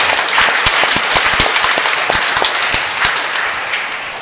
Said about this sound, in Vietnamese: Chúng ta cảm ơn và một tràng vỗ tay thật lớn với ca đoàn Thánh Mẫu.